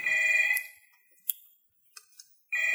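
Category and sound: signal or alarm, telephone ringing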